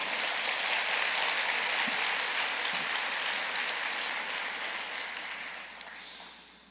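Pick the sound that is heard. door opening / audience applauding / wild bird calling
audience applauding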